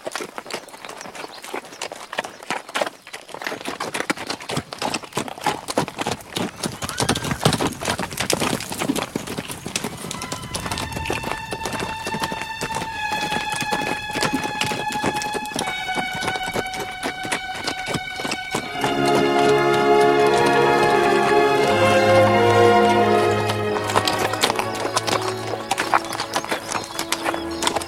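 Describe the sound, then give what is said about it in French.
Steady hoofbeats of horses crossing a moor of low grey vegetation clip-clop in a quick trotting rhythm, fairly loud, joined midway by sustained horse whinnies and neighing that grow fuller toward the end. “Du haut des chevaux, il dominait la végétation basse.”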